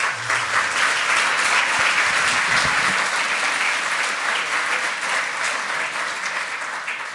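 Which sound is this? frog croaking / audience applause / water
audience applause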